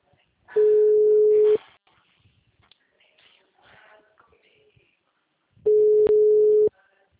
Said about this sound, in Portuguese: O telefone encontra-se ocupado.